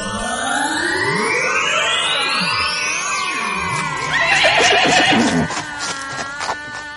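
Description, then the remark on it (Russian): Horses of two chariots whinny and neigh in overlapping, wavering cries, with a busier, louder stretch in the middle and faint hoof clatter underneath; there is no talking. “По желанию братьев, прямо из воздуха перед ними возникли две великолепные колесницы с возничими, лошадьми и оружием.”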